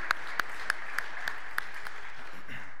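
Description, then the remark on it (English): A short round of applause at a service, thanking a person who kept the tech running: sharp, evenly spaced claps, about seven or eight in a steady rhythm, over a soft wash of background noise, fading out after a couple of seconds. No one speaks. “Yeah, let's give him a round of applause.”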